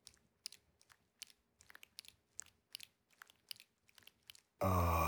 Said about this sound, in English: Take it in your mouth. One slurp at a time.